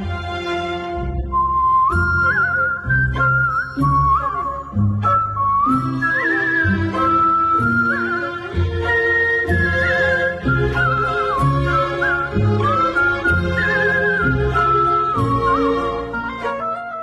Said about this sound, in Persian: تیتراژ پایانیش رو با سوت اجرا کردم به عنوان سولیست، که تجربه خیلی متفاوت و جالب و ارزشمندی بود برام.